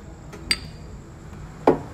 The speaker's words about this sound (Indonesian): Kita cheers lagi lah, cheers lagi.